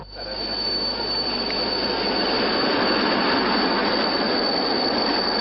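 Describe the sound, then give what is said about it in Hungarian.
A special train carrying Hungarian pilgrims rolls along a few kilometres from Csíkszereda in fog, with a loud, continuous high-pitched squeal of wheels grinding on the rails, layered over a steady rumbling roar that holds for the whole stretch, with no voices. “A külön vonat helyi idő szerint 10 óra 10 perckor gördül be Csíkszeredába.”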